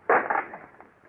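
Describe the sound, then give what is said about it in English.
A wooden shutter is broken open to let in light, with a sudden loud splintering crack, then a short rattling clatter that fades away, with a couple of faint knocks afterward. “I'll break that shutter, Captain.”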